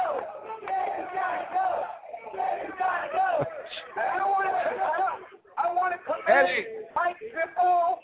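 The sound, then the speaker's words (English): A large crowd chants loudly in unison, shouting the repeated rhythmic phrase "Sanders gotta go" with brief pauses between rounds, many voices blending into a steady, forceful roar. “He's leading the cheers, it sounds like.”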